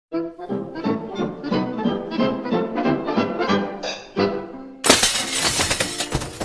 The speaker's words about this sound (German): Der Abend, an dem sich Familie, Freunde, Nachbarn und Bekannte vor dem Elternhaus der Braut versammeln und Porzellan oder Steingut zerschlagen.